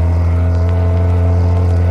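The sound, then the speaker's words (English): A motorboat engine roars, a loud, steady, deep droning hum with a strong low rumble that holds constant throughout, with no voices. The boat, driven by Mayo, is coming this way. “Boat coming this way.”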